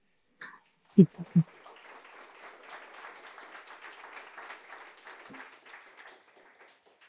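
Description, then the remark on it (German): Audience applause in a room: a steady wash of many hands clapping that holds for several seconds and slowly tapers off, opened by a few loud low thumps. “Jetzt in so einem Raum gibt es dann mal Applaus.”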